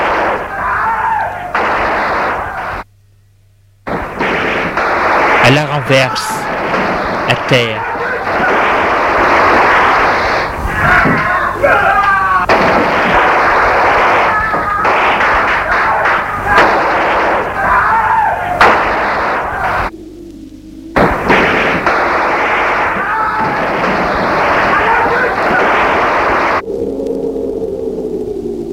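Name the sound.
gunfire into a crowd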